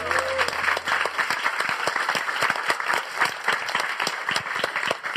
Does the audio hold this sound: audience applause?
yes